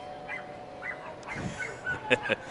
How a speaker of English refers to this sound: A lot of dogs in attendance. One of them barking at the doorbell sound effect just played.